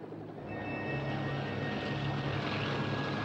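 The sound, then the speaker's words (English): A helicopter drones steadily as it is brought down lower approaching the top of a plateau, a dense rushing engine roar with a thin high whine running through it, holding at a constant loud level with no voices. “Gomez brings the helicopter down lower as they approach the top of the plateau.”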